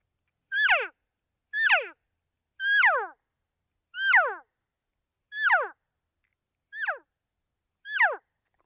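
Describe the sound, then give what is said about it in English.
Seven short, nasal cow elk mews imitated by a person with the lips, pronouncing the letters E-O, each sliding down in pitch, repeated at a steady pace of about one per second with silence between and no talking. “And as your lips make that sound, it just gives a little bit more realism to the cow call.”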